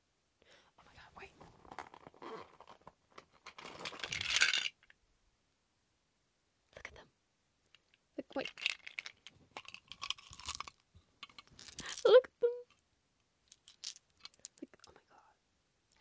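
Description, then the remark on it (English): Newly bought dice rattle and clack together in several uneven bursts, with a louder clatter early on, while someone whispers softly in between. “Did I even show you the dice I bought?”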